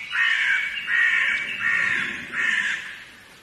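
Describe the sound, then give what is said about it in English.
A crow caws four times in a steady rhythm in a cemetery, each call harsh and drawn out, sounding fairly clear, with no talking over it. “Yeah, that's definitely a crow up there.”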